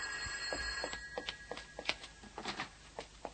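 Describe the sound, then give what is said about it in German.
An old-fashioned telephone bell rings at the Blocksberg home with a rapid, rattling clatter of strikes over a sustained metallic tone, fairly quiet and continuous throughout, with no voices. “Telefon, Frau Kolumna.”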